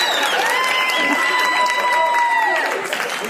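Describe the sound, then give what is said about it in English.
An audience claps and cheers loudly and steadily for about three seconds, a dense patter of applause mixed with sustained whooping voices that fade slightly at the end. “they don't clap for me.”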